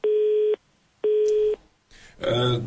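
A telephone busy tone sounds twice after a caller hangs up on a radio call-in programme: two steady, mid-pitched beeps of about half a second each, separated by an equal pause, before a voice begins speaking over a faint line hiss.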